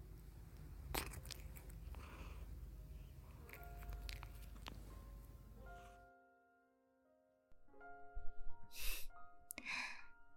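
Wet licking and grooming sounds with soft smacking as cats lick each other's fur, repeating for several seconds, then stopping. After a brief hush, quiet sustained tones and a few breathy sighs follow.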